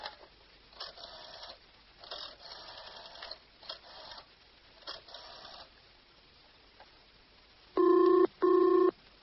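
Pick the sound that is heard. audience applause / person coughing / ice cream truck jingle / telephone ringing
telephone ringing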